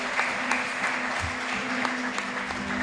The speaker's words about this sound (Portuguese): Nós abençoamos essas vidas e as recebemos com uma salva de palmas ao Teu nome. Aplauda Jesus, porque Ele é digno.